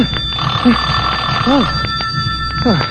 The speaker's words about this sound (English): The phone. Must answer the phone.